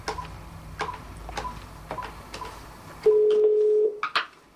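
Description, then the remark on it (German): A string of evenly spaced clicks like a phone being dialed to call the company Eurosol, followed by a single steady ringing tone lasting under a second, then a couple more clicks. No voices. “Wir rufen Eurosol an, wollen wissen, ob die Firma auch an deutsche Supermärkte liefert.”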